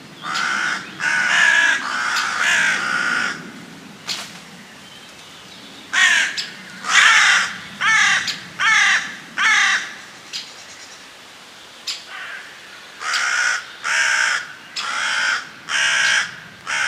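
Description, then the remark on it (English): A hooded crow caws repeatedly, harsh raucous calls in bursts of three or four with short pauses between, loud, with no talking. “Let's finish the crow chat with the call of the hooded crow.”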